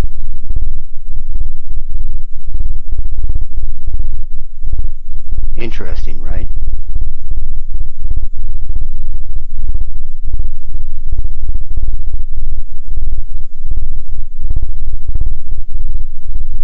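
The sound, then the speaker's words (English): A loud, steady low hum throbs continuously from start to finish, with a faint high tone above it, produced by four ELF tones between about 7 and 10 hertz, each inaudible alone, played together. A voice briefly speaks partway through. “You can't hear them by themselves until you put them together, and then they create some noise.”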